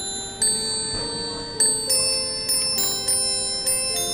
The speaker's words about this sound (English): This is called our Animated Symphony. It's got five settings on it with 50 songs to be played. So all on bells.